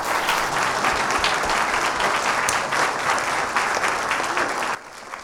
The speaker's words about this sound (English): Thank you so much. And let's give another round of applause for our children and youth.